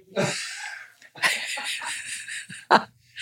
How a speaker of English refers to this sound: It's like the when a semi truck, when it turns off, like, here comes the sneeze. Excuse me.